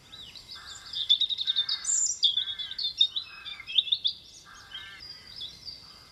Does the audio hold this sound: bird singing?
yes